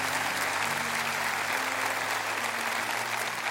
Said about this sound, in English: And if you're with me, would you please give Jesus a hand clap of praise saying, "I'm with you. I'm right there. I'm all the way. I'm in."